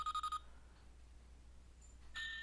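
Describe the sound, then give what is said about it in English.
A wristwatch with hands plays one of its two alarm sounds: four quick, high electronic beeps in a rapid burst, then after a short quiet gap a thin beeping tone starts again. It is fairly faint, with no talking. “Okay, and I must have missed it, but there was an alarm sound. Let me see if I can find it. There it goes. There's one alarm sound.”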